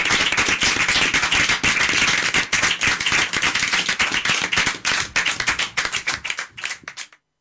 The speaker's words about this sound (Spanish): Bueno, pues un aplauso muy fuerte para vosotros.